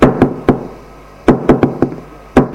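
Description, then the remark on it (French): A mother knocking on a door at 7 in the morning to wake her son: sharp knocks in uneven clusters, three quick raps, a pause, then a faster run of four or five, and one final knock, loud and alone without any talking. “Jeudi est là, levé à 7 heures par maman, qui frappe à la porte.”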